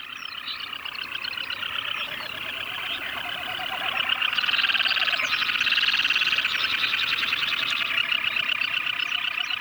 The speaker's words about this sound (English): And this is what Teshek Puk Lake sounds like during the frenetic mating season. These birds were recorded by Garrett Vinn, a biologist who used to conduct bird population surveys for oil companies that hoped to drill in the area.